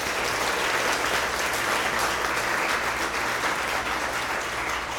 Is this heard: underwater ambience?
no